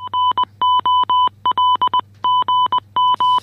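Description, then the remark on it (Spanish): A bright, high electronic beep taps out "gol" (goal) in Morse code, the goal signal of Sunday football radio shows such as Carrusel Deportivo, in quick groups of short and longer pulses, repeating several times over a low steady hum, with no voices. “Ese mítico pitidito que, se ha dicho de paso, es gol en idioma morse.”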